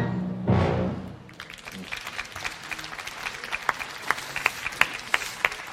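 An audience bursts into applause for the musicians of the MDR Symphony Orchestra after a brief swell of sound, the clapping building into a dense, steady patter of many hands with sharp individual claps standing out.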